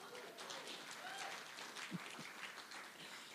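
A crowd applauds steadily for a few seconds, a dense wash of many hands clapping at once, with a faint voice or two rising briefly amid the noise.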